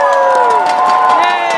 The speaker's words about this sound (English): Ladies and gentlemen, can we get one more massive cheer for all our athletes from the London Games?